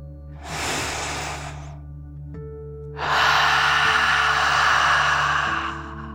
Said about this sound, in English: Let's relax by taking a deep dragon breath together. Breathe in through your nose, filling up your lungs, and then out through your mouth, pretending you are breathing fire, like a dragon. Are you ready? Deep breath in and out.